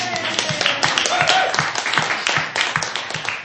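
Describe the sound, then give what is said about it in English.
Many people clapping together, a dense, steady patter of many hands that stays loud for the whole stretch, with some murmuring voices mixed underneath. “Can we clap now? Please.”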